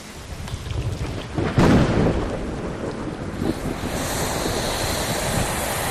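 A recreated thunderstorm with heavy rain, like the one that soaked a balloon hours into a balloon crossing: a dense, steady roar of rainfall, broken by one loud rumbling thunder burst early on that swells and slowly fades back into the downpour. No voices.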